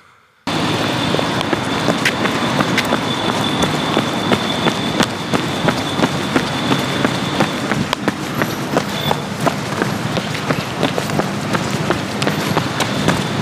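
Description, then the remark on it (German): Hurried footsteps of someone rushing to catch a waiting bus tap along a sidewalk of square paving stones in a quick, steady rhythm of sharp clicks, set against a constant rushing background noise and a faint high whine, with no one speaking. “Nee, das sind jetzt Tonschuhe. Ruhe. Auf dem Gehweg. Steine sind viereckig.”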